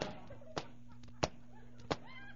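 Footsteps of a woman in high French heels walking in town: three sharp, crisp clicks at an even, unhurried pace, each distinct, over a faint steady low hum.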